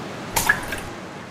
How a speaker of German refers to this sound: Die Meerjungfrau schlug mit ihrer Flosse auf das Wasser.